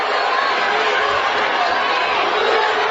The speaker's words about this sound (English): Shh, shh, shh. He's not liking it. There's people in the background telling everybody to be quiet. There's people in the crowd putting their thumbs down.